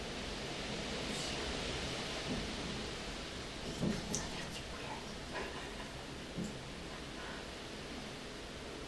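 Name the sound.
thunderstorm with strong wind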